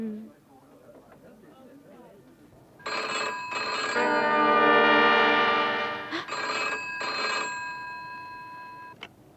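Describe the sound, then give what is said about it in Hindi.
A telephone rings loudly, two short bursts, then a long sustained ring, then two more bursts, after a quiet stretch with faint murmuring beforehand. “Hello, हाँ अशोक, अशोक का telephone है, पूछ कब आएंगे?”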